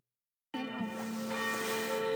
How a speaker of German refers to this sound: Es ist 18 Uhr, wie man auch an den Kirchenglocken hört.